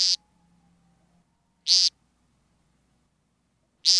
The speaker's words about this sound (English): Each show, which may be performed dozens of times per night, starts with a ground-based vocal display, commonly known as peenting.